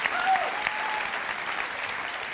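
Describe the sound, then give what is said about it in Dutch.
A steady wash of applause from listeners at a sermon, clapping after the preacher tells of receiving 1 million in two weeks, many hands in a dense, even patter that stays at a constant level for a couple of seconds with no voices standing out. “Ja, daar mag je voor klappen, want dat is een enorm wonder.”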